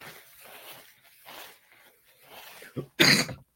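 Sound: coughing and throat clearing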